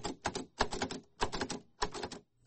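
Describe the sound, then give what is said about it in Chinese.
Crisp mechanical clacking from a braille typewriter used by blind language professor Hooper in his classroom at a college in New York, keys struck in quick bursts of several strokes separated by short regular pauses, with no one talking. “学院为胡珀教授提供了特殊设备，他在课堂有一台盲人打字机，可以工作也可以写诗。”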